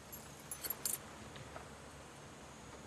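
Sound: keys jangling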